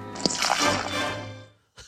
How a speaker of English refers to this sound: So in that clip, you hear the pouring. He's pouring a cup of Gatorade, and then he says he has a drinking problem and just splashes the cup all over his face.